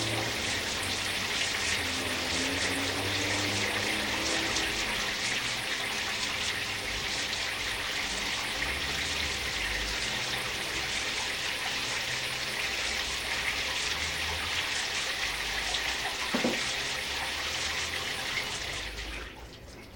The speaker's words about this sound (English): Wild track number 1056, for scene number 422, shower starting, running, and stopping.